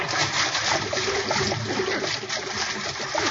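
Continuous churning and splashing water fills the scene, a dense rush with sloshing surges as the boat Nancy Root sinks amid turbulent waves, with faint voices buried underneath.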